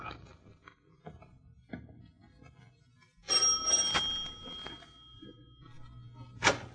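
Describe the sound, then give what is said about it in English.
A doorbell at the front door of 27 Ludwigstrasse rings once with a bright, ringing metallic tone that lingers and slowly fades, after a few soft footfalls, followed by a sharp click. “Front door, Watson. Shall we mount the stairs and ring?”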